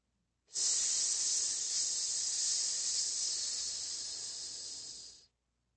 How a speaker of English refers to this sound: It took me a few seconds to figure out what was making that hissing sound. Then I saw a smoky green mist shooting up from the bottle. The thick mist rose up like a geyser, chilly and wet.